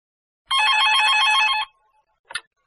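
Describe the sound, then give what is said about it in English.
A telephone rings once, a loud, bright, rapidly trilling burst lasting about a second, followed by a pause and a short clack like a handset being picked up. “Answering the phone.”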